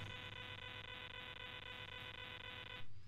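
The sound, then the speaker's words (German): A steady, shrill electronic beeping comes through a phone line on a call where the caller says nothing, droning on without a break for about three seconds before cutting off abruptly, with no voices. “Ich höre nur Piepsen.”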